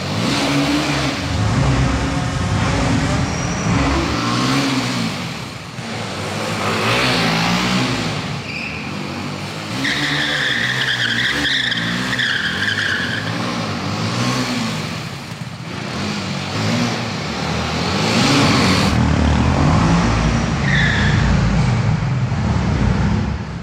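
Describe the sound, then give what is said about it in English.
A BMW G310R motorcycle engine revs hard during a wheelie, its pitch repeatedly climbing and dropping as the electronic throttle is worked, staying loud and continuous throughout with no voices. “It now features an electronic throttle, which means you get even more precision and modulation when doing wheelies”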